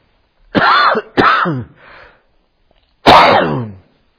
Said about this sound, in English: Excuse me a moment, I do need to clear my throat. I've got something caught in my throat.